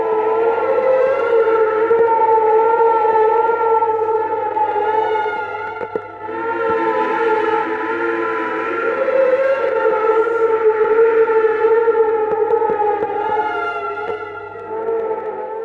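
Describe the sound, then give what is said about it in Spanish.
Distorted, eerie music with a hiss of static throughout, the melody heard at Lady Comstock's tomb once Elizabeth opens a portal there to a reality where Lady Comstock is still alive, made of sustained, wavering tones layered over a constant low hum and crackle, steady and loud with no voices. “melodía que, de igual modo, cuando llegamos a la tumba de Lady Comstock, se presenta distorsionada, cargada de ruido estático, una vez que Elizabeth abre un portal allí a una realidad en la que Lady Comstock sigue viva.”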